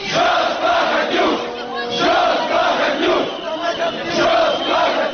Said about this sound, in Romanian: Declarația președinției a fost făcută în timp ce mii de oameni demonstrau la Parlament împotriva învestirii guvernului pentru alegeri anticipate împotriva lui Vlad Plahotniuc.